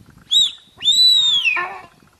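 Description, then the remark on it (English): Two piercing, high whistling calls from a Sika deer in the Irish countryside: a brief yelp, then a longer drawn-out shriek that slides downward and ends in a rough, grating tail. The calls are loud and have no talk. “But an ever more common one, as the deer population, specifically the Sika deer population, continues going up and up and up.”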